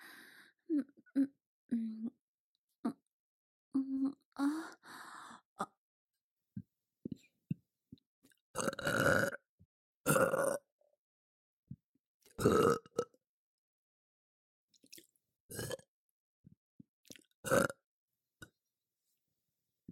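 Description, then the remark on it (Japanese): A series of loud burps, about five of them, spaced a couple of seconds apart, following a stretch of soft whispering and small mouth noises. “ゲップ恥ずかしい。”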